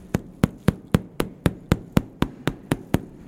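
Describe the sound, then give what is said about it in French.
A young cheese wheel is tapped about a dozen times in a quick, steady rhythm to check the paste for defects, each knock dull, muffled and uniform, with no voices over it. “le son d'un jeune fromage est totalement différent du son d'un plus vieux”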